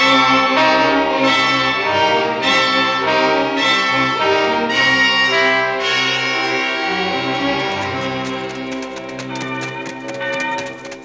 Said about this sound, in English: What kind of a church bell makes a sound like that? That's no church. That's the alarm bell at the prison.